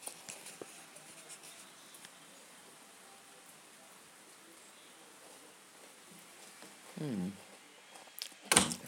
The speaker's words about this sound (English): Well, let's see what the rain's doing. It's still going.